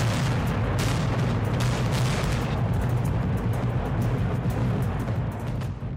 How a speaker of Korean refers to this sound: 네, 지난 5월 24일 북한이 풍계리 핵실험장을 폭발했습니다. 네. 이날 폭파된 시설은 핵실험장 2번, 3번 그리고 4번 갱도 그리고 지상 관측 설비 연구소와 관련 건물 등이다라고 북한이 이렇게 확인을 했습니다.